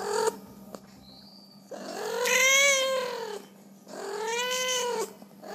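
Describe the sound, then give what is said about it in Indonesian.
Two long, drawn-out, loud meows from street cats in Indonesia, each rising and falling in a wailing arc, separated by a brief pause with faint background noise. “Minggu 9 Februari adalah hari bahagia bagi puluhan sampai ratusan kucing jalanan se-Indonesia.”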